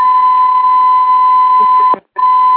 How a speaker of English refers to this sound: Okay, I heard a beep. I didn't know if it was. I don't know what that was. Okay, good.